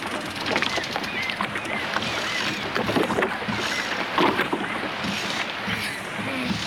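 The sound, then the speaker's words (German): A small boat sails steadily across water to an island, with a continuous wash and lapping splashes against the hull, plus faint creaks and knocks scattered throughout. No one speaks. “nutzten die beiden Jungen die Gelegenheit und nahmen heimlich sein Boot. Sie segelten zur Toteninsel hinüber.”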